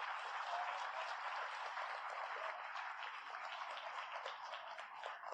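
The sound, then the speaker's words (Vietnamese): An audience at a convention applauds steadily, many hands clapping in a dense, continuous wash that holds for several seconds and eases slightly toward the end, with no voices over it. “Xin các quý vị cho một tràng vỗ tay vì nhờ thế chúng ta có ngày hôm nay.”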